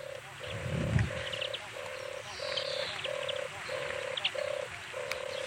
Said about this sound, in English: And its cousin, the turtle dove, which makes a noise like this.